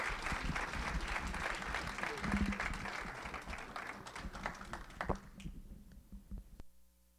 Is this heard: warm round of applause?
yes